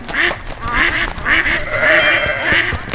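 A duck quacks repeatedly in quick, nasal bursts, fairly loud, with goat and sheep calls mixed in around it; no one is speaking.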